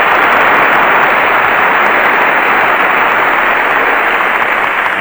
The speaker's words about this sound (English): There are so many in the orchestra, I guess by the time you divide that applause up, it'll run into fractions.